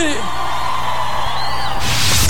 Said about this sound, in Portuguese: Só dá um gritão aí!